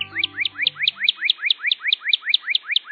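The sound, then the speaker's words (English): A northern cardinal sings a fast, steady series of clear, upslurred whistles, about four per second, loud, with a faint low hum fading out at the start. “Surely it's the cardinal, or as you'll find in a bird book, the northern cardinal.”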